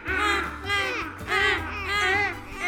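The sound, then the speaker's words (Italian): Seagulls flying around a little girl on a sandy beach cry out in a series of loud, wavering calls, three or four in quick succession, over a low steady hum in the background. “Anche i gabbiani volano attorno alla bambina per giocare con lei e gridano la loro gioia.”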